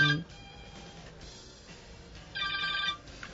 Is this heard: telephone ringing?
yes